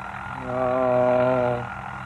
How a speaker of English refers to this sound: Charles Hale, turn off that alarm clock right now and get up.